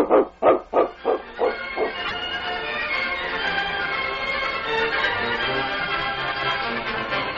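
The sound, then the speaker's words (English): A dog named King lets out about six quick, loud barks in a steady rhythm, then a dense, sustained wash of sound takes over and continues to the end. “Dogs are the best friends in the world, aren't they, King?”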